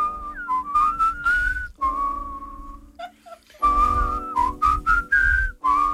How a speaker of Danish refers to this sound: Jeg kan ikke noget med fløjt. Jeg nej. Men hvor meget vi skal fløjte med, det må vi lige vurdere undervejs.